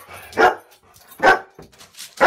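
animal, dog barking

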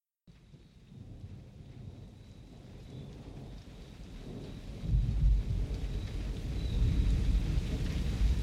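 nature, approaching thunderstorm

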